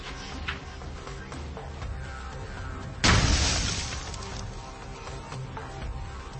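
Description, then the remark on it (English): A single sharp, loud explosive burst erupts midway through steady outdoor background noise, followed by a rushing, crackling decay that fades over about a second, as tracer rounds fired from an AR-15 ignite propellant in a small explosion. “we decided to hit them with the tracer rounds, see if they'd do anything”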